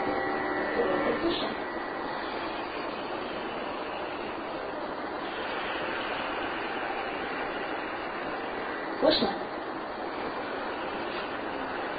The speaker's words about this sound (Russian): Все расслаблено. Немного сжимается голосовая щель и получается как бы такое шипение. Или представьте, что вы вот засыпаете, вырубаетесь, и вы начинаете так дышать автоматически.